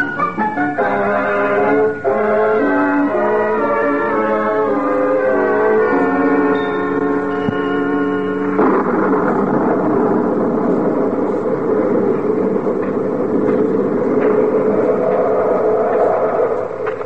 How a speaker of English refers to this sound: Darn thunder.